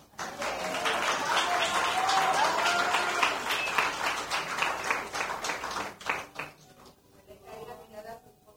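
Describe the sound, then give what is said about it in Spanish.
A church audience bursts into sustained, dense applause that holds steady for several seconds, then thins out into scattered claps and fades as a voice begins speaking. “Un aplauso”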